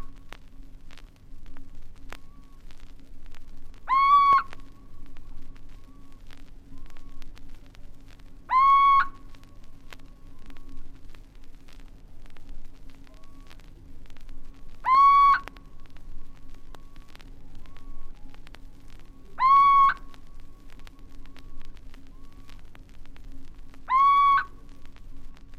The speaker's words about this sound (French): Dans la plaine, les voix nocturnes sont plus douces. La chouette chevêche n'est-elle pas quelque peu nostalgique ?